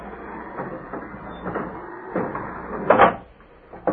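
An orderly swings a wooden gate shut with a series of soft creaks and knocks, building to a loud wooden clunk, followed by a brief final bump. No one speaks.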